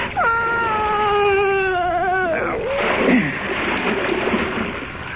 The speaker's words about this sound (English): He slumped over his wife's body. I closed my ears to her moans, and I pushed them both into the dark water.